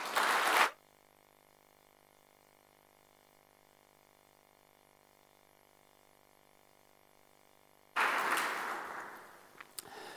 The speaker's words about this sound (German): Es ist wirklich ein herzlicher Applaus wert.